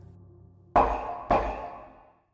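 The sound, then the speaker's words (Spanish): Two loud, sharp raps of a metal door knocker shaped like a clenched hand, hanging above the door, about half a second apart, each leaving a bright ringing tone that fades away slowly, over a faint low hum. “Ay, respiré hondo, cerré unos segundos mis ojos, exhalé con fuerza y llamé dos veces con la chapa en forma de mano empuñada que colgaba sobre la puerta.”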